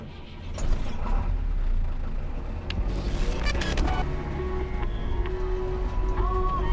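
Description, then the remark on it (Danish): An old BMW, the driver's new car, drives steadily home from a funeral, its engine and road noise forming a constant low rumble, with brief clicks and a short tonal beep toward the end. No one speaks. “Han har lige været til begravelse og kører hjem i sin nye bil.”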